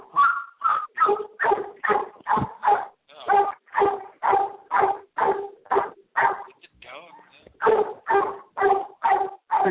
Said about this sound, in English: I got family members returning from the Caribbean, so they're coming in. I'm about to hear my dog bark.